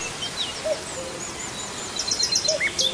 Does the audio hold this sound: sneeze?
no